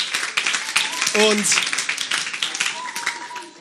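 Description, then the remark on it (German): A crowd breaks into sustained, dense applause, many hands clapping at once in a steady roar, with brief cheers and a voice calling out faintly amid the noise. “Gebt euch mal selber einen fetten Applaus.”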